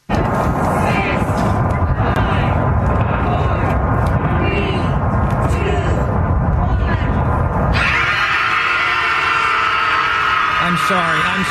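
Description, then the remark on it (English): A large crowd of people in San Francisco, gathered for a collective scream, screams together in a loud, sustained roar of overlapping voices, which after several seconds thins into higher, wavering wails and shrieks. “In the meantime, why don't we play people in San Francisco who have Trump derangement syndrome screaming as they all got together for a collective scream?”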